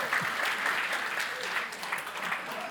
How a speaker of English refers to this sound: Wow. Great job, Doreen. Can we give Doreen a round of applause for that reading?